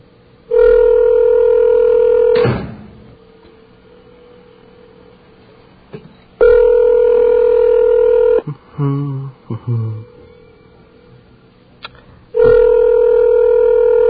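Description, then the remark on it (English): A telephone call to an emergency towing service goes unanswered: the ringback tone rings out three times, each steady, buzzy two-second burst followed by a few seconds of quiet, with a few soft clicks in between and no one picking up. “Well, they answered, advertised emergency towing any day, any time, but they didn't answer.”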